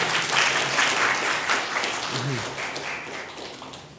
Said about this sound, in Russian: По-моему, случилось чудо. Мне кажется, это достойно аплодисментов. Вам так не кажется?